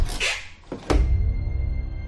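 A house's front door opens at breakfast time after the doorbell rings: a brief scraping rattle of the latch, then a solid thunk, followed by a low, steady rumble of room noise.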